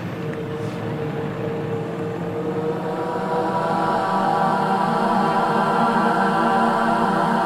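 A jet airplane roars steadily overhead outdoors on a cold day, a broad rushing drone with humming engine tones that grows slightly louder over several seconds, with no voices.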